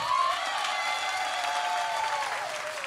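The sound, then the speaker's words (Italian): Audience applause for the Geiger counter fills the whole stretch, a dense steady patter of many hands clapping at once, fairly loud, with a faint whistle or cheer briefly cutting through. “Aspetta, un applauso per il contatore.”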